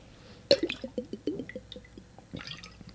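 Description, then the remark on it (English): Water sloshes inside a water bottle: a sharp knock, then a quick run of hollow, bubbly glugs that gradually fade, with a softer slosh near the end. Fairly quiet, no voices. “Not a bong. Bottle of water.”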